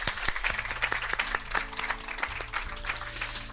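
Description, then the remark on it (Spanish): An audience applauds steadily, many hands clapping in a dense, continuous patter with sharper individual claps standing out, while a low hum sits underneath. “Un aplauso, por favor.”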